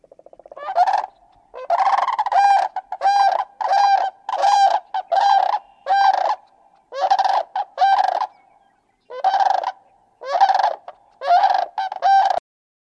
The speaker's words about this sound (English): The Sandhill Crane.